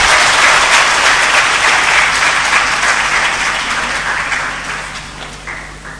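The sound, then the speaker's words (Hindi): A crowd breaks into loud, dense applause for the kumars, many hands clapping at once in a steady wash of sound that gradually thins and fades toward the end. “तो कुमारों के लिए ताली बजा दो एक बार.”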